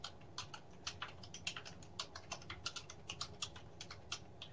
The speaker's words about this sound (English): Hold on, folks. I'm typing him a little note. On the air, I'm telling him I can't dial his number on the air.